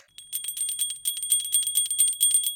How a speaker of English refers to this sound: Okay, so we've rang the bell for the Soul Sisters.